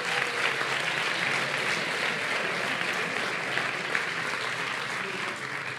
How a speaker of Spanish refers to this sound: Y los nominados son El vuelo de York, El rugido de mi impala, El octavo día y Subterránea. Un aplauso para ellos.